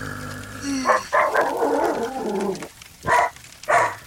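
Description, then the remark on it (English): A dog lets out a high, drawn-out yelp that breaks into a burst of loud, sharp barks, then two more separate barks after a brief pause. No talking. “I love when dogs go from that yelp to that bark.”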